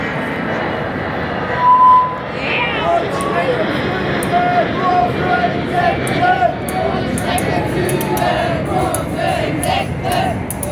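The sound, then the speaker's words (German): A steady, broad roar of an airplane passing overhead fills the whole stretch, fairly loud and unchanging, with faint murmuring voices underneath. “Kurze Flugzeugpause.”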